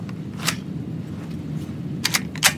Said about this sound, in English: So I'll load the firearm here.